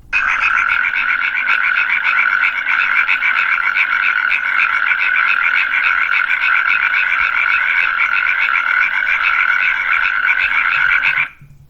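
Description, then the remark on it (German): A natterjack toad calls in a loud, continuous rattling trill, steady for about eleven seconds before stopping abruptly, with no voices. “So, das war jetzt der Ziegenmelker und jetzt kommt die Kreuzkröte.”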